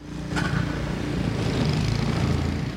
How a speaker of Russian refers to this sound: Машина – это ваша помощница сейчас со снегом. Это, да, она облегчает труд очень. Сложно с ней управляться-то? Да нет, не сложно.